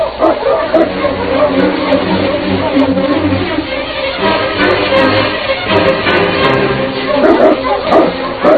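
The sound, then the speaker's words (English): A pack of sled dogs, led by the husky King, barks and yips excitedly and continuously, with overlapping high-pitched yelps and occasional whimpers, loud throughout. “Get the dogs up, boy.”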